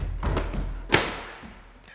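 A door swings shut with one solid thud, preceded by a few soft bumps and shuffling, then everything settles into quiet.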